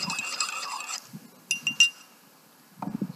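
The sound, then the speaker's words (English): A spoon stirs honey into a hot drink in a cup, giving three quick, bright, ringing clinks against the sides after a second of soft rustling, followed by a few dull low knocks. “I already put honey in, so stir that up.”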